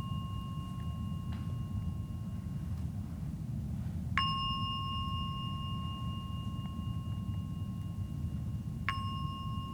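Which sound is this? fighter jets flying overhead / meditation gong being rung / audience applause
meditation gong being rung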